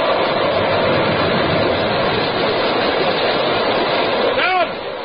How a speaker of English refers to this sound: By evening, the Pequod, torn of her canvas and bare poles, struggle as sky and sea roar. The disabled mass fluttering with the rags of canvas left by the first fury of the tempest.